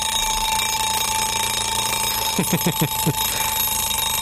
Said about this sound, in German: Nein, ich will doch nicht aufstehen. Ne? Dieses frühe Aufstehen mit diesem fiesen Geräusch. Der Wecker.